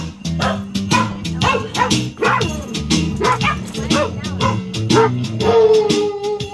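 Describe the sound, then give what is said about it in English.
The Door County Sled Dogs, rescued huskies arriving at Milwaukee's Clutch Park, bark and yip in quick, repeated bursts over their upbeat, steady theme music, ending with a long, sustained tone. The barking is loud, mixed into the music. “The Huskies not only have their own specially outfitted bus, but also their own theme music.”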